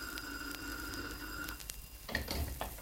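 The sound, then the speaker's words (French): A telephone rings with a steady electronic tone and faint repeating clicks, then cuts off about halfway through, leaving a low background hum and some soft rustling. “Vous pouvez laisser le téléphone tranquille.”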